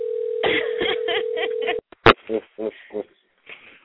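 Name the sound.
telephone call ringing tone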